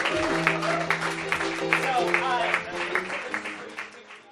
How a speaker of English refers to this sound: Ladies and gentlemen, on that note, can we do a big round of applause for Justice Paul Anderson?